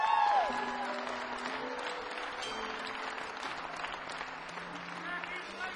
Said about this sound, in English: There's a bunch of guys that we travel with, too, that help us out. All of our crew guys doing sound and lights and guitars and monitors and selling t-shirts and stuff. Let's give them a big round of applause to them.